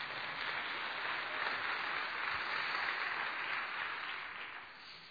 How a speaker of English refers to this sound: Now that's more of a mercy applause. I need everybody to do it if we're going to do it together. Come on, church.